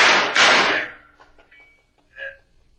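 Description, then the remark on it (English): Two heavy knocks land on a back door in quick succession, followed by a few faint taps and a short, muffled squeak-like sound before quiet. “It is the back door, Sam.”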